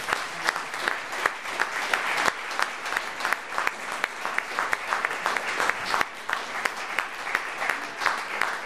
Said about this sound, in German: Und das finde ich eine super tolle Sache und, glaube ich, ist aber ein Beifall wert.